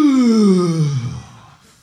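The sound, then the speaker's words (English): A preacher in church imitates a big, loud yawn: one long, drawn-out vocal groan sliding steadily downward in pitch, then trailing off into a breathy fade. “Yeah, I know at least in this church, I've heard a yawn so loud until it made my ears rumble.”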